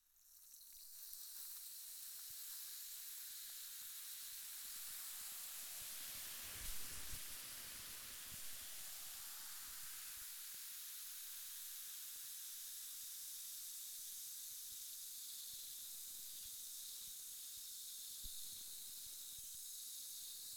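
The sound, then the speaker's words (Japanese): A steady hiss of spray mist runs continuously for about twenty seconds, bright and airy, with a slightly stronger burst near the middle and no voices; a second round of mist sprayed onto the listener, who is asked not to move. “それではもう一回、シュワシュワ、いきますよ。動かないでくださいね。”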